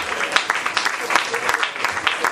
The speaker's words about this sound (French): On peut l'applaudir. Amen.